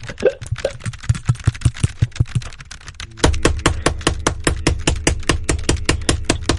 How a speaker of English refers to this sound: Well, I think the hammering's probably not helping.